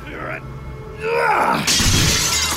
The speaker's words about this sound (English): I pick up a chair and hurl it at the glass.